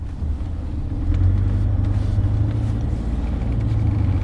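A car drives over the hill above Bludov toward Šumperk on a foggy day, with a steady, deep engine rumble that swells slightly after the first second and holds at a constant level, with no voices present.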